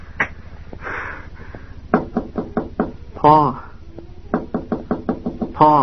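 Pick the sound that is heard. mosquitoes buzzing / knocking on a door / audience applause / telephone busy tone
knocking on a door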